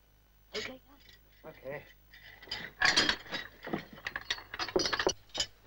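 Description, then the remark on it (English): A mill's huge stone wheel mechanism turning, heard as loud, irregular bursts of creaking, ratcheting and clattering that grow busier midway and keep grinding along in uneven surges. “Haney and Norton look up at the noise next door.”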